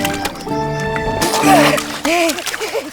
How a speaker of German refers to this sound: Gleichzeitig werfen die Mädchen die Stöcke von der Brücke hinunter in den Fluss.